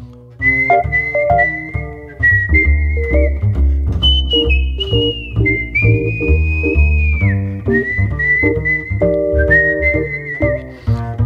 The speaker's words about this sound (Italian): Italiano, fischiatore, no, non è Piero Miliani. Piero Miliani suona il piano, non fischia.